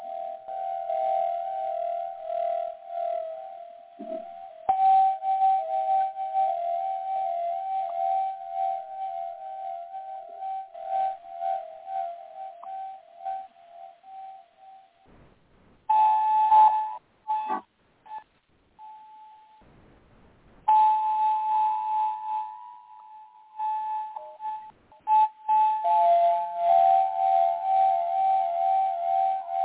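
A quartz crystal harp rings out with long, pure, sustained mid-pitched tones that shift between a few notes, broken by short pauses and soft clinks. No talking.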